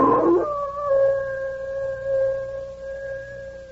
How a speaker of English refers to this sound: Bill, listen to that old wolf out there.